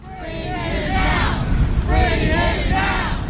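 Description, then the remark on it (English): A crowd of protesters chanting outside Boston City Hall, demanding the release of Francisco Rodriguez, an undocumented immigrant MIT janitor facing deportation; many voices shout in unison in repeated rhythmic bursts over a steady rumble of crowd noise, loud. “This was a scene yesterday outside of Boston City Hall where a crowd of protesters demanded the release of Francisco Rodriguez, an undocumented immigrant who'd been working as a janitor at MIT and who now faces deportation.”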